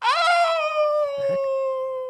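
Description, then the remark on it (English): A voice imitates a wolf's howl from behind a thick bush: one long, loud note that swoops up at the start and then holds steady, with a brief rustling thump partway through. “Ow, you cry from behind a thick bush, imitating the howling of your wolfish friend on the roof.”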